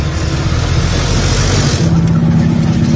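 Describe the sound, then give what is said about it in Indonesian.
A steady, loud engine drone fills the whole stretch, low and rumbling like a vehicle running on the road, travelling alongside a sand truck ahead, with a slight rise in pitch toward the end as it revs. “Kini kami berjalan beriringan dengan sebuah truk pasir yang berada di depan kami.”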